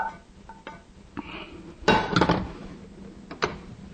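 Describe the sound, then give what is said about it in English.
A mixture is poured into a pot of chili amid kitchen clatter: scattered metallic clinks and scrapes, then a brief louder burst of sloshing and scraping near the middle. No one speaks. “Once it gets to the proper consistency that you like, you know, you could just add it into the chili. And I think it's about right now, so we could just go ahead and pour this in.”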